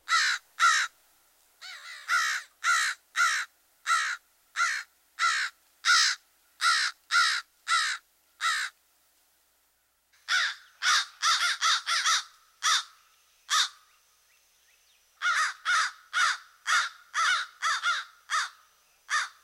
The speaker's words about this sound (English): While the raucous caw, caw is typical, the crow has an extensive repertoire, including rattles and clicks. Here's the familiar vocalization again.